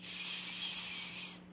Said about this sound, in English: So I'm going to take a deep breath in and slowly breathe out through my mouth. And I'm taking another deep breath in and slowly breathing out through my mouth. And taking one more deep breath in